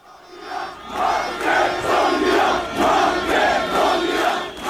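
A large crowd of protesters storming the parliament in Macedonia and attacking deputies shouts and roars in rhythmic surges, chanting in repeated loud bursts with a dense wash of voices throughout and no single speaker standing out.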